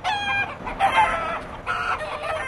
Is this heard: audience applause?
no